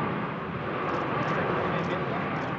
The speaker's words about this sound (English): At the Paris Air Show last year, executives from Airbus and from arch-rival Boeing stood and watched an exhibition flight of the world's biggest passenger plane, the 550-seat A380.